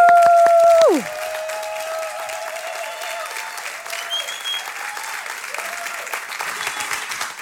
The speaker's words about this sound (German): Die Bühne gehört dir und wir begrüßen dich mit einem tosenden ICF Wien Applaus. Wuhu!